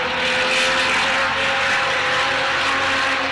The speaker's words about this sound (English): let's head back to a combustion engine with this flat 12 design. Just listen to this. That's not the kind of noise you want to hear when testing a new engine. It sounds like a bag of spanners. It did get going though, but it still didn't sound great.